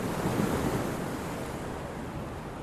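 Sea waves break and wash onto the shore in a steady, rushing roar, swelling slightly near the start, with a breath of wind mixed in and no voices.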